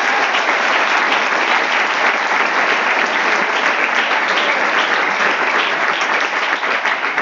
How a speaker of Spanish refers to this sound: Entonces si le damos un aplauso al Señor, por favor.